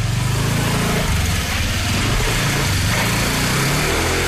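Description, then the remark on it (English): A small scooter engine buzzes and revs loudly as a woman rides off on it in Bali, its droning note rising and falling throughout without fading, with no voices over it. “She nearly ran him over. Off into the Bali sunset. On her scooter.”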